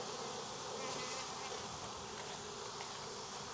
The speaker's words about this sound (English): Obviously, I need to get the bees out.